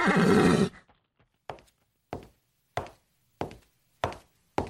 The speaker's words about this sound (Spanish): ¡Oh, caballo!